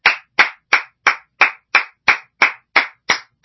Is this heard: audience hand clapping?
yes